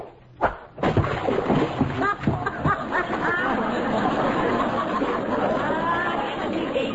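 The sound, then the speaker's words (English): A sharp thump and then a loud, heavy splash as a fishing cast hits the water hard, followed by busy background noise with voices chattering throughout. “That was as big a splash as I ever saw.”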